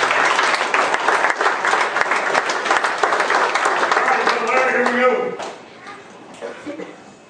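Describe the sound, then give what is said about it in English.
A large audience claps steadily and loudly for about five seconds, the dense applause then quickly tapering off, with a voice briefly heard as it fades. “Can you even have an applause?”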